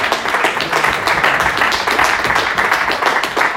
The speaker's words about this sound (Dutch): Dus nog een dik applaus. En een dik applaus voor het team.